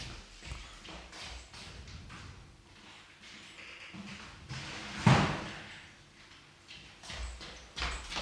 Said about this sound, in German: So, ich habe jetzt einmal die Tür offen gehalten, damit ich von da zur Küche rüberschauen kann.